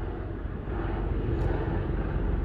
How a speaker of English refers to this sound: Sorry. Chopper going over the top of me. I'll just hold fire for a second, guys.